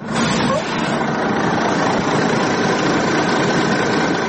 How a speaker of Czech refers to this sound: Autobus sa oko 80 migranata izbjeglih iz država Bliskog istoka zaustavlja se na oko 4 km od graničnog prelaza Horgoš.